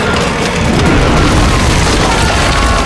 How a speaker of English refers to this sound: The Chasm Fiend slammed an arm down, smashing the bridge filled with attendants and soldiers.